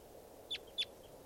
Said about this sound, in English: Good numbers of birds. Sound all like type 2 stuff.